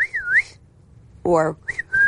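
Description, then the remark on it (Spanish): A computer-generated, dolphin-like whistle, played when a key is pressed on an underwater keyboard for dolphins, glides up and down in pitch, pauses, then returns after a buzzy, harmonic burst as a quick chirp and a steady high tone. Clear, with no talking. “Y pudieran pulsar una tecla y escuchar un silbido producido por ordenador parecido a...”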